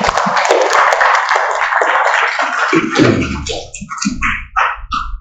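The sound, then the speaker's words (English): An audience claps together in a dense, steady round of applause in appreciation of those serving them and the children, fading after a few seconds, followed by scattered short sounds and murmurs. “And can we show our appreciation for those who are serving us and the children by giving them a round of applause?”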